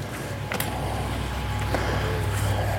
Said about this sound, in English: Larry is running around the driveway, hooking this Chevy Cruze up to his tow truck.